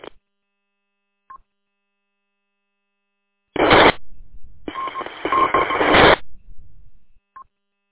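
Brief electronic beeps chirp at a steady mid pitch over a radio channel, broken by two loud bursts of harsh static carrying warbling tones inside them, with no voices.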